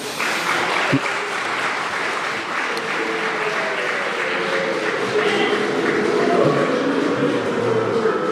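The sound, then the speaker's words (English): The audience of the Any Questions panel applauds steadily and loudly for several seconds, and a rising chorus of low, drawn-out boos swells underneath the clapping toward the end. “That was quite something, from applause to a whole range of boos.”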